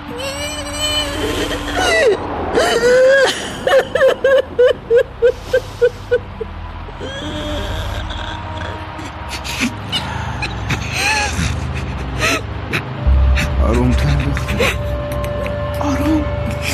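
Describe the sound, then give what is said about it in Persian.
A woman gasps for breath and whimpers, a run of short, rhythmic catching breaths giving way to shaky, strained vocal sounds. “نمیدونم، نفسم داره بند میاد.”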